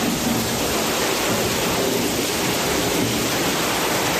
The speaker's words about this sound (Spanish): Lluvia y tormenta que provocó inundaciones en calles como Río Diel y Río Tinto, en la zona de Villarrubia o en el camino del Lagar de Trubio, donde los bomberos tuvieron que auxiliar a una persona con movilidad reducida.